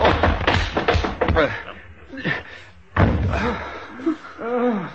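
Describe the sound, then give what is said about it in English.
A heavy blow with an ashtray to a man's head lands as a sharp, solid thud, followed by scuffling impacts and strained voices crying out in alarm. “You smashed his head with the ashtan.”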